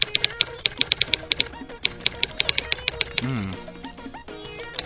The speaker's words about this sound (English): What am I typing right now? You're... I don't know. Like transcribing the music beats.